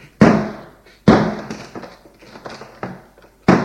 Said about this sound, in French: On entend le bruit des portes que l'on arrache.